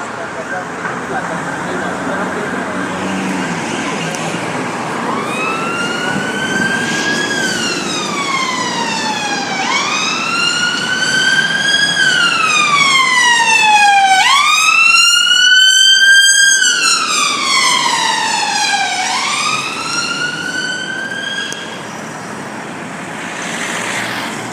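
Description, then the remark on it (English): A London ambulance siren wails as it speeds past on a busy street, its rising and falling tone growing louder toward the middle, then shifting pitch and fading as it moves away over steady traffic rumble. “Another London ambulance just zooms past at a great rate of knots.”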